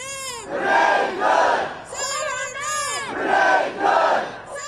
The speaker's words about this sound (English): The chants of hundreds of people who've been attending a vigil for Renee Good, a 37-year-old woman shot dead in a car by a federal agent from ICE, that's Immigration and Customs Enforcement.